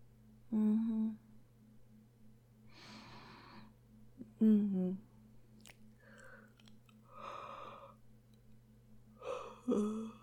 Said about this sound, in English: Yawning.